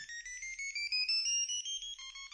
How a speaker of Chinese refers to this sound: 我听到了手机的铃声。